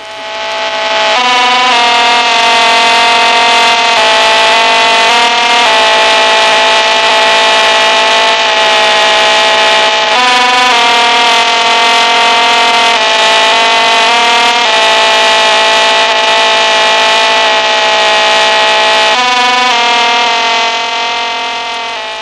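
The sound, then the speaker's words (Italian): A loud, continuous buzzing telemetry radio signal from an American satellite of the Ingen series, rich in harmonics, its tone shifting in a repeating coded pattern every few seconds for over twenty seconds, with no voices. “I satelliti americani della serie Ingen inviano solitamente le loro notizie secondo questo codice.”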